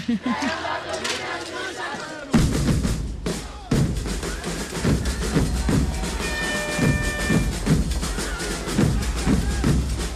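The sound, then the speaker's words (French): Loud maracatu percussion ensemble kicks in after a quieter opening, deep drums pounding a steady driving rhythm while many voices shout and chant over the beat, with a brief high whistle-like tone. “Les percussions du maracatu dans votre ensemble majeur”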